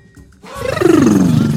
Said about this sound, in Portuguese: Você está ouvindo Ronco do Bugio, programa do Ponto de Cultura na Quebrada, na rádio comunitária Quilombo FM, porque nestas bandas o bugio ronca.